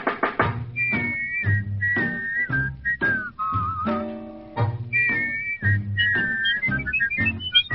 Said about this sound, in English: Hey, you gotta do it. You just gotta whistle to that one, folks.